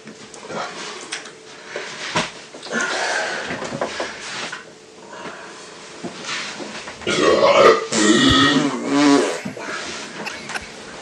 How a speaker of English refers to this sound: Okay, here's the next one. This guy, the title of this is just called Burp and Fart.